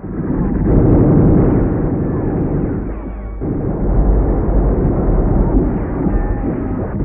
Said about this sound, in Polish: Pierwszy pułk artylerii lekkiej otwiera ogień ze wszystkich swoich baterii. Po 15 minutach kanonady batalion rusza.